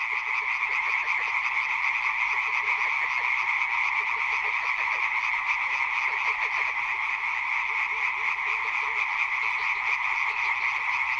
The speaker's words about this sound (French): Les grenouilles chantaient très fort et en pleine journée d'ailleurs, ce qui m'a beaucoup surpris. C'est le printemps.